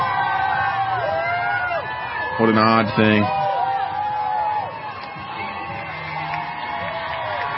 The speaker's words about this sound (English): What, do they just sit there and scream because they're waving their flags? What are we cheering on here?